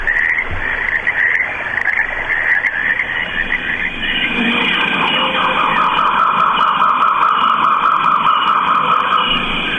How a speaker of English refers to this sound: Got frogs and brook and jungle sounds in here.